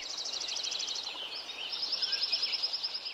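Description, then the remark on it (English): A dense chorus of birdsong fills Lincoln Meadow at Yuba Pass, California, before the surrounding forest was logged, with rapid, overlapping high chirps and trills pulsing steadily over a soft natural background hush, no voices present. “An example of this is Krauss's recording of Lincoln Meadow at Yuba Pass, California. Here it is before the forest was logged.”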